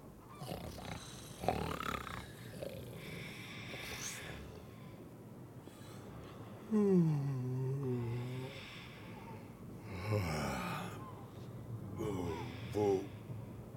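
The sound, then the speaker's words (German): Two voices snore back and forth in loud, rumbling drawn-out breaths with whistling exhales, an exaggerated imitation of two sleepers snoring on a drifting ship, repeating several times. “schnarchen und schnarchen bis...”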